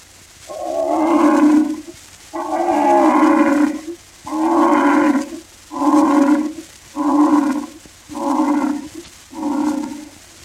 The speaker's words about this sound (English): But they all stopped and became hushed when the king of beasts, the mighty lion, roared like this.